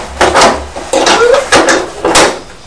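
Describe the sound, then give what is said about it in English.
Small toy house doors are roughly yanked open, giving four loud clattering knocks spaced about half a second apart, with no talking. “Don't be too rough with the doors”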